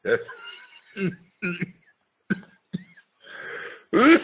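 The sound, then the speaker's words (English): A run of short coughs and throat-clearing bursts, irregular and somewhat voiced, broken by brief pauses, with a louder rough burst at the end that edges toward a chuckle. “When I think of the next two laws, I cough.”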